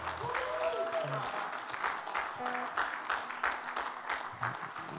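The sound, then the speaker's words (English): A church audience claps together to thank the worship team in steady, sustained applause, a dense wash of hand claps lasting the whole stretch, with some murmured voices and a few pitched tones mixed underneath. “So let's thank the worship team. Give them a hand clap.”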